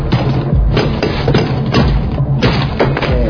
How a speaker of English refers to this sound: Hey, grab that hammer right there. Knock this lock off.